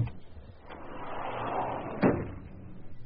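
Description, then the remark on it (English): A jammed phone booth door strains and rattles under a steady grinding push, then gives way with one sharp bang as it is forced open, fairly loud. “The door jammed on the phone booth, and I couldn't get out.”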